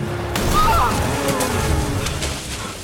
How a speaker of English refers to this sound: As she speeds along the narrow, snowy track, an owl swoops towards the car. Magoro swerves, skids, and plows into a snowbank.